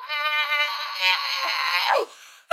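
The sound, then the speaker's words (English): A voice imitates a tiny pug screaming like a human: one loud, strained, wavering wail lasting about two seconds, ending in a falling squeal, then a brief breath. “It is a tiny pug that is screaming. No. It is screaming like a human.”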